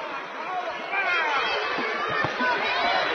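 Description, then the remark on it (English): A basketball crowd at a Bethlehem versus Pikeville game protests the lack of a foul call after a tie-up, with loud, continuous jeers and mixed shouting that swells after the first second and stays dense throughout, with overlapping voices. “Some of the crowd thinking there should have been a foul there.”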